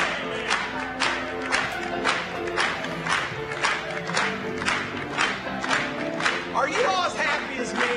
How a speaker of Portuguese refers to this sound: Quando nos encontrarmos com nosso bendito Salvador, podemos bater palmas mais uma vez?